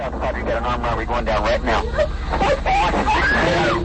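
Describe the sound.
A woman screams and cries out frantically on a phone call to police during a knife attack at a grocery store in Texas, winter 1983. Her high, wavering voice is loud and almost continuous, with a steady hum of background noise beneath it.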